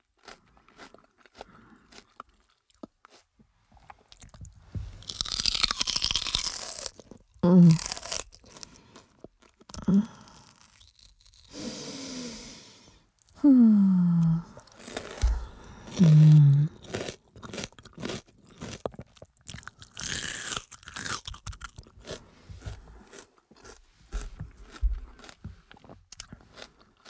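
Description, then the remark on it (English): Loud crunching as someone bites and chews raw celery, with wet snapping bursts and irregular chewing that comes in clusters and then tapers into softer, scattered crunches. “Tried to inhale the celery. Might be good for you, but it's not good for breathing.”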